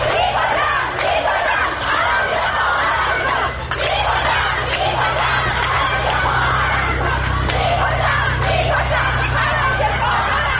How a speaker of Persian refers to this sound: در همین حال روز دوشنبه در پی فراخوان دانشجویان دانشگاه صنعتی شریف برای اعتصابات سراسری بسیاری از دانشجویان، ده‌ها دانشگاه عمده کشور تجمعات اعتراضی خود را آغاز کرده و شعارهایی ضد حکومت جمهوری اسلامی سر دادند.